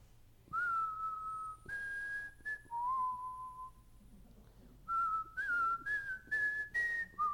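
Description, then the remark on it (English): Someone whistles to imitate a whistling kettle: steady, high, shrill tones held for a second or two each, stepping up and down in pitch, in two close, clear bursts separated by a short pause. “Well, how does whistling kettle whistle?”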